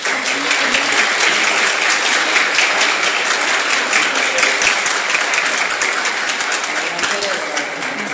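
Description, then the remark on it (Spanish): Sustained audience applause for course instructors being introduced, a dense crackle of many hands clapping at a steady, loud level for several seconds without letup. “Vamos a pedir también un aplauso para la instructora”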